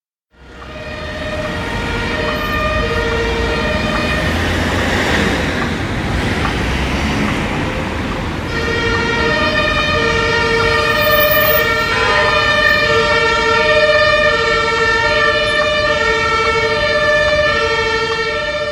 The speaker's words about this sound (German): Wow. Straßenlärm, das kann man eindeutig sagen. Aber wo ist das? Das ist mitten in Berlin. Das ist Wilhelmstraße, Ecke Dorotheenstraße. Das ist eine Ecke in Berlin, wo es eigentlich immer Stau gibt. Da stehen immer Autos rum.